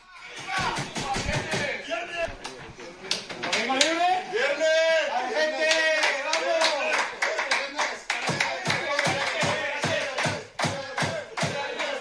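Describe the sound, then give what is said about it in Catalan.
Villarreal football players, after a match, loudly chant "Viernes, Viernes, Viernes" together while a hard, hollow metal trunk for clothing is banged repeatedly, the strikes turning into a fast, steady run of sharp bangs near the end. “le aporrellaba el baúl metàl·lic que porta en la roba cantant Viernes, Viernes, Viernes”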